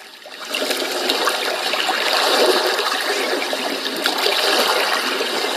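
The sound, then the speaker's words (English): Continuous gentle evening-lake ambience played back on a device, a soft steady wash of lapping and trickling water, even in level throughout with no voices. “Crickets, shower, evening lake. Okay, let's click on evening lake.”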